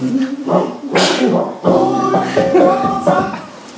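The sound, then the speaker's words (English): Loud dog barks come in a quick run of bursts, some stretching into throaty, howl-like yelps, over about four seconds with no break in the noise. “Who let the dogs?”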